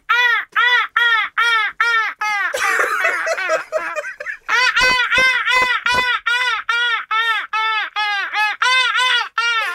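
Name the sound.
voice imitating seagull calls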